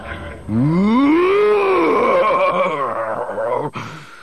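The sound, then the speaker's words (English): A voice performs the Hutt Lord Jiliak's loud, drawn-out scream of fury that swoops upward in pitch, then slides down into rough, rumbling growls before cutting off. “Jiliak's scream of fury made Han and Nebel leap behind the buffet table.”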